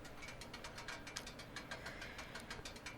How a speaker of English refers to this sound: And you can hear that. You can hear the ticking because it got real hot.